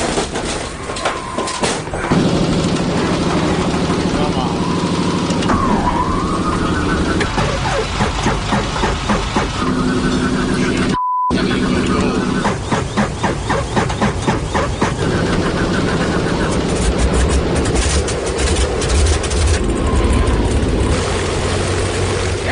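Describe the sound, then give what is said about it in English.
Vintage aircraft engines cough and turn over, then catch and settle into a loud, steady propeller drone with rhythmic pulsing, continuing to roar throughout. “Now, the question is, will the plane start?”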